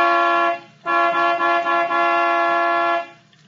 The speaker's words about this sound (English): All right. I'll give it the horn.